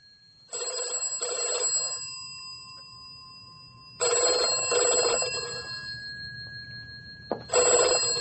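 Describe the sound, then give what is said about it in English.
A telephone rings in repeated double bursts, a bright trilling bell with short pauses between each pair, fairly loud, with no one speaking. “These phone calls really seem to be getting her down.”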